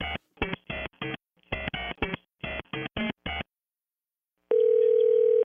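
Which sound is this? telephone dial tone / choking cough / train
telephone dial tone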